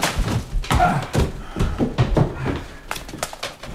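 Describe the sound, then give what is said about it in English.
A door barricaded from the inside is being forced off its hinges: an irregular series of heavy thuds and slams, with wood banging and rattling for several seconds and no voices. “We've been unable to rouse the gentleman, and the door's been barricaded from the inside. So, I'm taking it off his hinges!”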